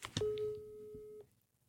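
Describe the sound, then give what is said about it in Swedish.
A single steady electronic ringback tone from a phone call lasts about a second after a short click, then falls silent. It is clear, with no voices. “Vi ringer upp Camilla och hör vad hon själv har att säga om det här.”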